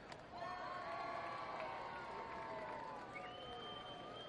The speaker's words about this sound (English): A whole lot of cheering in between pitches tonight. Wish we could see what's going on.